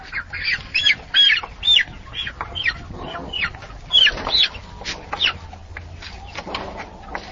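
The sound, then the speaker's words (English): A crowd of chickens in Basir's coop in Africa, kept by a seller who sells 10 to 20 chickens a day, squawks and clucks in a steady, overlapping chorus of short, shrill calls, with a low background hum underneath. “He says he sells between 10 and 20 chickens a day.”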